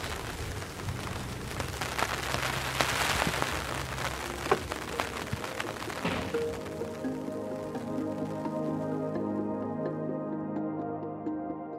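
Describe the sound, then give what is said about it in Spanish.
Steady rain hisses down with scattered drips and splashes; about halfway through, a sustained tonal hum or music fades in beneath the softening rain. “Las lluvias caídas en el último mes han hecho que el embalse que hace un año se secó, el de Sierra Boyera, ahora esté a más de 3/4 de su capacidad.”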